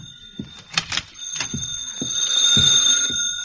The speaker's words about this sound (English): Oh, there's a conference room phone. Well, I guess it's all right to answer it.